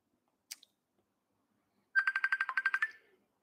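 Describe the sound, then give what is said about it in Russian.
A mobile phone ringtone for an incoming call during a live broadcast plays a quick run of about ten bright, rhythmic electronic pulses, clear, after a brief short click; no one speaks. “А чего Катя мне звонит?”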